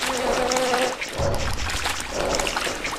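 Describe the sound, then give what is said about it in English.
A video game water geyser gushes in a steady, loud rushing hiss, with a deeper surge about a third of the way in and a faint humming tone underneath. No one speaks. “Or it's been a long time, and then I go and die right there because I don't get out of the geyser's way or something.”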